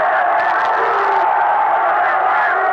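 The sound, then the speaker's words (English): A huge crowd of supporters of Khomeini and the revolution roars and cheers continuously in the streets of Tehran, Iran, a dense wall of voices with whoops and shouts rising from the mass, loud and sustained throughout. “But here, in this area where so many people have lost their lives in support of Khomeini and in support of the revolution to bring down the current government, the crowds are just overwhelming.”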